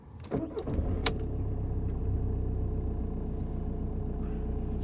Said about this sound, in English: Here, let's turn the car on and get some air back here.